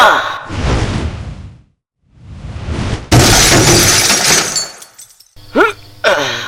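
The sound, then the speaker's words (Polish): Two rushing, breathy bursts lead into a loud, bright crash of a glass ball with pictures inside shattering, its debris ringing out for a couple of seconds before short gasping vocal sounds close it out. “Zniszczyłeś koledze szklaną kulę z obrazkami.”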